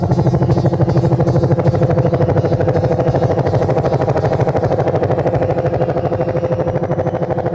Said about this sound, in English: Sound of the choppers.